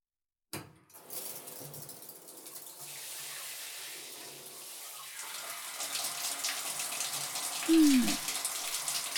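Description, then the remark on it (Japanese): Running water starts abruptly and flows steadily, a continuous splashing hiss that swells slightly louder toward the end as it lightly wets a person's hair before shampooing, with a brief squeak near the finish and no talking. “じゃあシャンプー前に軽く髪を濡らしてくね。”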